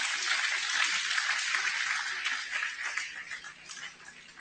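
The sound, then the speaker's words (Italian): A church audience at Fonte di Vita in Modena applauds to welcome a visiting apostle, a dense crackle of many hands clapping at once, holding steady for about two seconds before gradually thinning and fading out. “Facciamo un applauso al nostro apostolo.”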